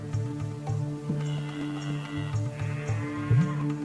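cow mooing

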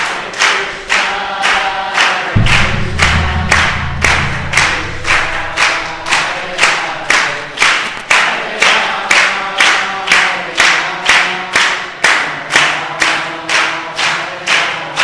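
group clapping

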